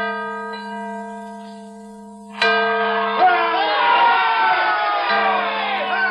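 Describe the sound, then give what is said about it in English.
A large, famed bell, repaired and rung on February 22, 1846, the anniversary of George Washington's birth, hums with a long, resonant ring, then is struck again loudly partway through, its tone swelling as a crowd cheers and shouts beneath it. “The famed bell sounded clear and true.”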